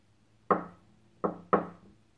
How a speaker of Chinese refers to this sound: 这时候敲门声响起。我知道，我的宝贝儿子来了。